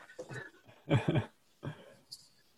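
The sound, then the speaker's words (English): A dog lets out a few short, sharp barks in an irregular burst, the middle one loudest, ending with a brief high-pitched yelp or squeak. “There's the dog.”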